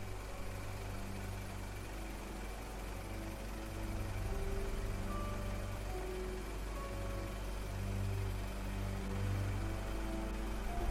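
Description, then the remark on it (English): A covered motor car's engine idles steadily by a back gate in Ship Street, a low continuous rumble with a faint vibrating hum, unchanging for the whole stretch, with no voices. “Waiting seemed very long to Mr. Zanuck as he fidgeted restlessly in the covered motor car by the terrible old man's back gate in Ship Street.”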